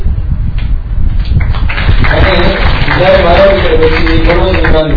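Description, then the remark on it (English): An audience at a temple gathering claps in a dense, steady patter that swells after the first second and carries on throughout, with murmuring voices mixed into the applause. “You're clapping too soon.”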